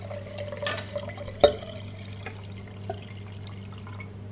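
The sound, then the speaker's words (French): Cold water is poured over cut courgettes in a jar, with soft splashing and dripping, one sharp clink partway through, over a steady low hum. No one speaks. “Et après, une fois que l'eau est froide, tu le verses sur les courgettes.”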